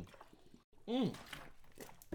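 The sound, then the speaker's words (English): Someone takes a few quick gulps of water, soft wet swallowing sounds with a short voiced exhale in the middle, fairly quiet overall. “I just need a big gulp of water right now.”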